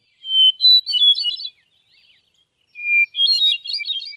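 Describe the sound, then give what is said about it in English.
A hermit thrush sings two phrases separated by a short pause, each opening on a clear sustained note before breaking into fluting, rapidly rising and falling tones. The song is loud and heard alone, without talking. “the ethereal song of the hermit thrush, famous for ushering in summer evenings in the Maine forest.”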